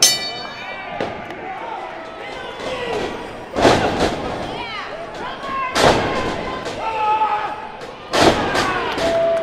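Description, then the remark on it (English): Heavy body slams crash onto a wrestling ring mat during a pro wrestling tag team match, four loud booming thuds spaced a couple of seconds apart, over a noisy backdrop of crowd cheering and shouting voices. “After subjecting each other to an onslaught of kinetic pulls and body slams, the two embraced each other at the end of the match.”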